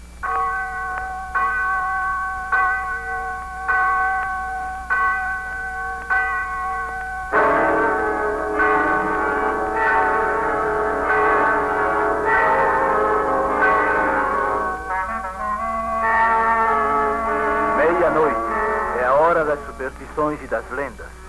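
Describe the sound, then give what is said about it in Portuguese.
A church bell strikes twelve at midnight on São João night, ringing out at a slow, steady pace, each clear metallic toll following the last, with a denser wash of ringing tones building behind later strikes. “Atreve a afastar-se da fogueira enquanto soam as 12 badaladas”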